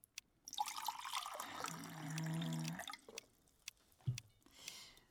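Water pours steadily for a couple of seconds, a bright splashing stream with a rising tone as the vessel fills, followed by a few clinks and small knocks.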